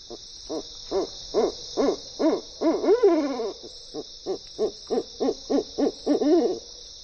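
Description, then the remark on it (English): An owl gives a long run of quick, rhythmic hoots, over a dozen in steady succession, clear, with a constant high insect-like hiss of a night backdrop behind it. “Owls even help control pests like non-native rodents where people live, all without traps or poison. And they lend their music to our nights.”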